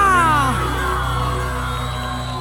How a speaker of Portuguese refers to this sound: Quem tá gostando dessa canção, dá um grito.